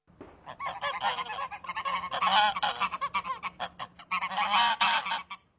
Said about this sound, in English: Yes, the sound of geese there, one of many farm animals, at Tolsuf Dvor, an environmental education centre for children.